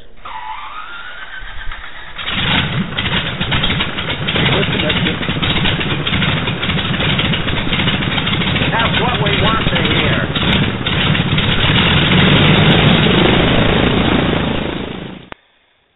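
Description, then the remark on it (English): A starter whines and climbs in pitch for a couple of seconds, then a big radial aircraft engine catches and roars steadily, propeller churning. A voice briefly speaks over it before it cuts off. “I vote for the round engine.”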